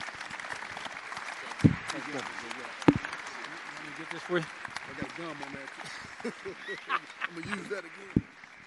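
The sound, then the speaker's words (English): A crowd gives a round of applause for Commissioner Goodell and two others, clapping steadily for several seconds, a dense wash of applause with a few sharper hits, while voices and cheers mingle underneath. “Round of applause for these three.”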